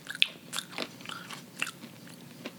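Crisp crunching of mint-flavoured, chocolate-covered dry roasted chickpeas being chewed, a series of sharp irregular bites and grinding crunches over a few seconds, with no talking.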